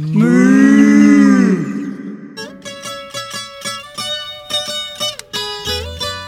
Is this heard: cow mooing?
yes